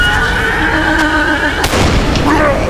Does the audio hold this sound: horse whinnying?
yes